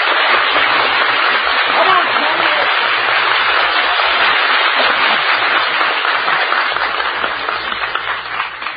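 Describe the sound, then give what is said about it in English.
A studio audience in Hollywood cheers and applauds loudly, a dense, steady roar of clapping and shouting voices that holds for several seconds before easing slightly at the end. “Here's another big cheer from Hollywood, you folks.”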